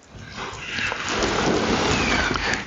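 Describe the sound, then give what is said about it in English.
A heavy downpour roars steadily with a dense wash of rain while deep thunder rumbles underneath, swelling louder through the middle and holding full to the end. “Thunderous downpour, hailing, fiery hail, destroying the land.”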